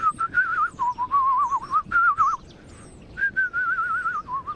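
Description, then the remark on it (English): A person whistles in quick warbling, trilling phrases that imitate birdsong, loud, with a short pause before the wavering whistle resumes. “Well, start basically by whistling.”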